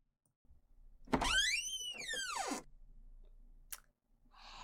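A door is opened only slightly, creaking slowly in a single drawn-out squeal that rises and falls in pitch, followed by a sharp click and faint rustling.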